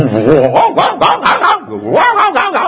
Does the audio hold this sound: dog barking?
yes